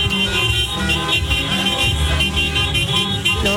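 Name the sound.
passing cars honking horns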